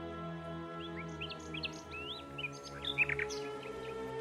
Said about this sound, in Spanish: Al llegar a una planicie, lo rodea una bandada de pájaros.